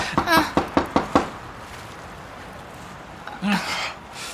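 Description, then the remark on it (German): Five firm knocks on a locked door in quick, even succession, loud, followed by a long silence and then a short murmur of a voice near the end. “Ich klopf noch mal. Vielleicht war ich noch nicht laut genug.”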